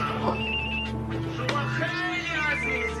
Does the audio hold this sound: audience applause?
no